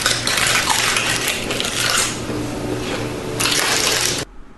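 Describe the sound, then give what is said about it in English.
Crinkly plastic wrapper rustling as a hand rummages inside a bag, a dense, bright crackle that swells in bursts for about four seconds and then cuts off abruptly. No voices. “It was the wrapper, someone putting their hand back into a bag by the sounds how of things.”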